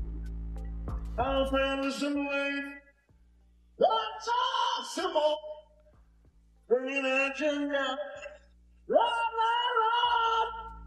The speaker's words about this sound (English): it's David Lee Roth singing